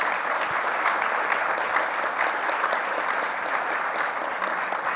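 Sustained audience applause, a dense, even wash of many hands clapping at steady loudness for several seconds, with no voices standing out above it.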